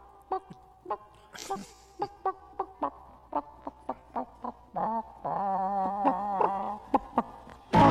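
chickens clucking

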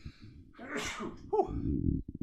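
sneeze

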